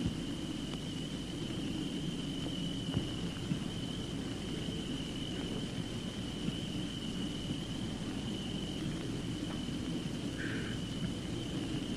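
cricket chirping

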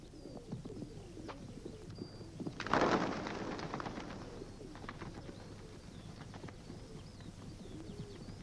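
pigeons cooing

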